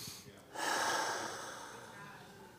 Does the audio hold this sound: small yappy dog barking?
no